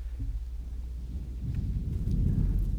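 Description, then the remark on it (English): A deep, low rumble of thunder rolls steadily and swells louder halfway through, heavy and continuous with no voices, like a storm grumbling. “God is at work in the weather as we live under the rain and the thunder and the lightning at this time.”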